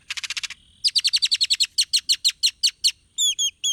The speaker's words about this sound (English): Great-tailed grackles are known for their long, expressive tails and their wide vocabulary of odd sounds.